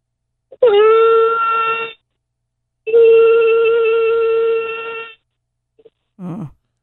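A voice attempting the longest possible sustained vocal note holds a steady, fairly high sung note for just over a second, stops, then holds it again for over two seconds with a bright, slightly tinny tone, followed by a short murmur.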